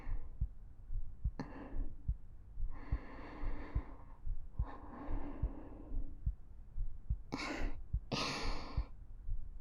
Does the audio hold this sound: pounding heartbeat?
yes